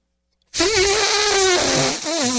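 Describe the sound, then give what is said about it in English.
A voice imitates an elephant's trumpet: a loud, raspy, brassy blare that starts abruptly after a short silence, wavers in pitch, briefly dips, then pushes on for about two seconds. “What about like an elephant?”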